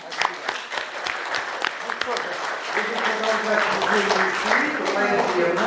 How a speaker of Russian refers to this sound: Ну, аплодисменты.